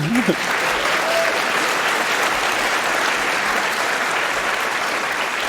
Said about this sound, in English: Then receive your applause.